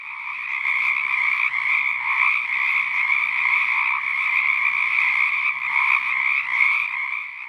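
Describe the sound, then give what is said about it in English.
A dense chorus of frogs calls continuously, many overlapping trilling croaks forming a steady, loud wall of sound with slight pulsing swells throughout. “Any given patch of frogs will spontaneously cycle between silence and calling.”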